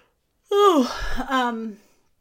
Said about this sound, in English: See, now I'm yawning.